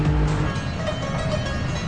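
car being driven

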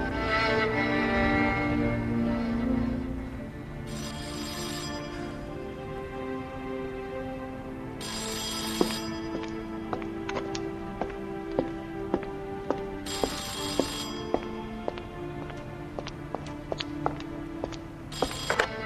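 telephone ringing

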